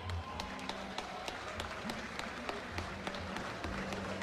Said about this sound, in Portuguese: O pessoal está no aguardo lá para tirar foto, para entregar o troféu, aliás, para tirar foto. Vamos ver onde é que está o time aí. Salva de palmas.